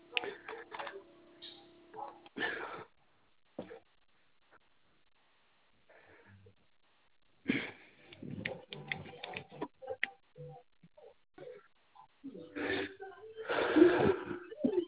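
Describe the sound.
Scratchy bursts of a pencil writing notes on paper, in short irregular strokes separated by quiet pauses, with some faint background voices and handling noise.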